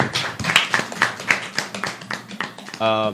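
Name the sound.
audience clapping hands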